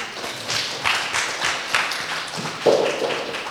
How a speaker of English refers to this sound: Can we encourage them with a round of applause?